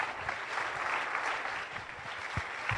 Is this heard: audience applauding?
yes